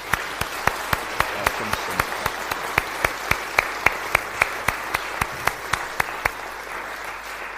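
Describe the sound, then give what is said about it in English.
An audience applauds in congratulation and welcome, a dense wash of clapping with sharp, evenly spaced individual claps standing out in a steady rhythm for about six seconds before they trail off. “In congratulation and welcome, let one and all applaud. Let's put our hands together.”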